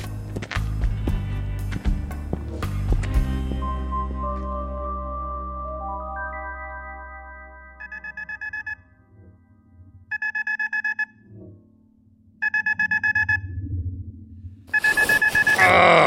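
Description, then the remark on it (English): An electronic alarm beeps in rapid pulsed bursts, four loud clusters spaced about two seconds apart, following a stretch of low rumbling and fading tones. “Alarm off!”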